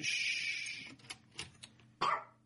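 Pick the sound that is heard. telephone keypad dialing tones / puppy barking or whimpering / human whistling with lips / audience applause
puppy barking or whimpering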